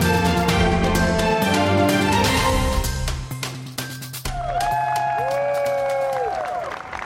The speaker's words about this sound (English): A round of applause from Republicans after President Donald Trump signed the budget reconciliation bill on July 4th, a day after the final version passed in the House.